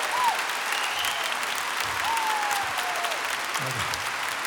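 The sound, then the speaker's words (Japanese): A concert audience applauds steadily for the horn section, a dense, even wash of clapping that holds its level throughout, with faint whistles or cheers rising above it now and then. “そして本セクションズにもう一度盛大な拍手を、盛大な拍手を。”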